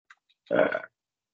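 burp

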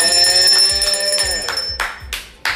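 bell ringing

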